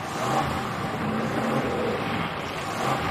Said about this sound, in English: George drives his truck as the stranger pushes it.